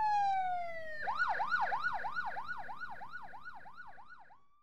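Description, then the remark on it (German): An ambulance siren sounds alone and loud, opening with a falling tone before switching to a fast, rhythmic wail that swoops up and down repeatedly. “Der Krankenwagen kommt.”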